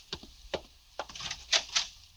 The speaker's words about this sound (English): I open the door for you, Excellency.